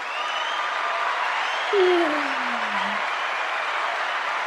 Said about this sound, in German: Applaus für einen Euro. Genau, Applaus für einen Euro.